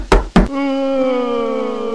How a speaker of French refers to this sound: Eh bien voilà, une sonnerie bizarre.